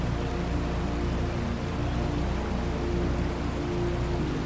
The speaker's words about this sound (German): Schon bald verändert sich der Fluss. Das Wasser wird schneller, die Strömung stärker, Felsen erscheinen, dann hörst du ein tiefes Rauschen.